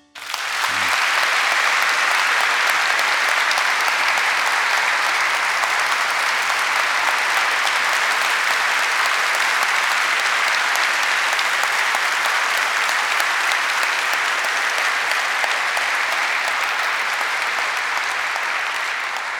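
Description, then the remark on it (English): A large audience gives a standing ovation, clapping steadily and loudly for about twenty seconds to welcome Olympic diver David Bodaya at St. Luke's, a dense, sustained wash of applause that holds its level throughout, with no speech over it. “I wasn't expecting that in my prep, like a standing ovation and a clap.”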